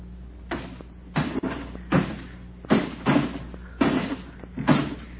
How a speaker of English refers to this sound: That got it. And we've knocked out every pane of glass in the place.